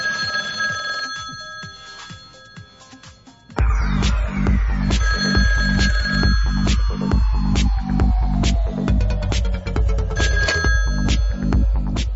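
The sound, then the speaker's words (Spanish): A home landline telephone rings with a bright electronic trill over a steady pulsing backing track that kicks in loudly partway through, with a descending tone sweeping down underneath. “Yo hace años que no uso mucho el fijo de casa, la verdad. Que por cierto, solo suena cuando, la verdad, esto es cierto, ¿eh?”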